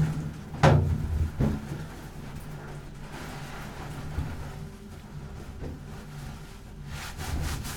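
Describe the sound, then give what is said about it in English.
A door is opened: a sharp knock-like thump and latch sound near the start, a second softer clunk, then a steady low rumble with no one speaking. “I think this would be easier face to face. I find there is nothing more scary than a closed door.”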